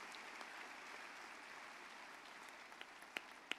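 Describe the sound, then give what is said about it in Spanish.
An audience applauds the Lord together in a steady, dense wash of clapping, with a few sharper, louder claps standing out near the end. “Un aplauso al Señor.”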